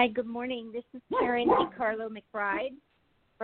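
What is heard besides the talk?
dog barking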